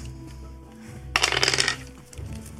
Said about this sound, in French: Vas-y, lance tes dés et fais moins de 50.